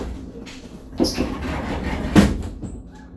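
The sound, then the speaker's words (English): An automatic sliding door glides shut with a low mechanical rumble and airy hiss, marked by two soft thuds about a second apart, with no voices. “Look, the doors, they slide open.”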